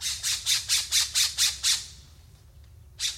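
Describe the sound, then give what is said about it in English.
An island scrub jay, found on Santa Cruz Island in California's Channel Islands National Park, gives a rapid run of eight harsh, raspy squawks in a steady rhythm, then pauses and adds one more, with a low rumble of background noise underneath. “the striking cobalt feathers of the island scrub jay, one of the rarest songbirds in the U.S.”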